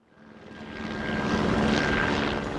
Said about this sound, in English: Police helicopters circled above downtown for most of the evening as hundreds of protesters gathered at San Antonio Public Safety Headquarters.